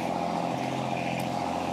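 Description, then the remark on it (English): An old Chevrolet Blazer SUV's engine rumbles steadily as it passes on the left, a constant low, gritty drone with no voices and no pauses. “Old Chevrolet Blazer passing on the left.”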